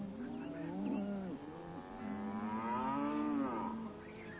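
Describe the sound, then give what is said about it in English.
Cows from a herd being sold to a meat company moo in long, drawn-out bellows, two or three calls overlapping back to back, fairly loud with no talking. “You mean these cows are, I thought you just moved them back and forth.”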